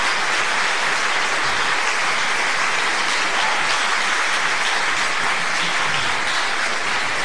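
Steady, dense applause from an audience welcoming an invited guest, a continuous crackling wash of many hands clapping at even loudness throughout, with no voices over it.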